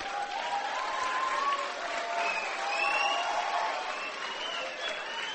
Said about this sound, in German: Und das Problem wird sein, für diejenigen, die jetzt geklatscht haben, du wirst irgendwann an einer Arbeitsstelle stehen, wo du sagst, oh Mann, hätte ich mir damals bloß nicht geklatscht, sondern hätte es lieber gelernt.